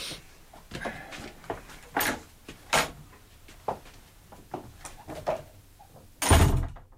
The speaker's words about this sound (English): Lock the door of this room, and if anybody asks for me, say I'm in here composing my mind.